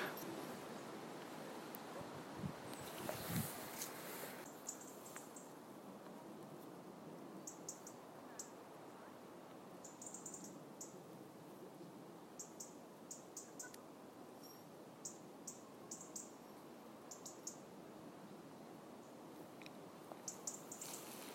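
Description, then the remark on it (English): Two or three robins, about 20 metres apart, chatter back and forth in thin, high bursts of song, repeated every second or two over a steady outdoor hiss, with no one speaking. “What I hope you can hear is the sound of two robins, at least two, perhaps three robins, chattering to each other about 20 metres or so from each other, and I'm just standing in between the two.”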